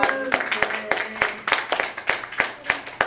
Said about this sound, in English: Okay, so it's just worth celebrating over and over and over. Met our bond goals. Round of applause around the table.